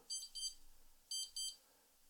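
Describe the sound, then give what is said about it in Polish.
A shaver charger gives a quick, high-pitched, three-tone electronic beep sequence as the shaver is placed on it to charge, short tones in quick pairs that repeat after brief pauses, with no talking. “I w momencie, gdy sobie ją położymy, właśnie, mamy taki szybki trójtonowy dźwięk.”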